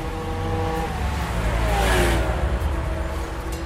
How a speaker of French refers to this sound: À ses heures perdues, terme on ne peut plus adapter à son quotidien, le jeune homme roule à toute berzingue en moto et sans assurance, évidemment.